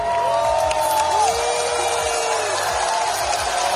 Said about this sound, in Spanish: Abucheos y pitidos que no han evitado que la representante israelí pase a la final gracias al voto del público.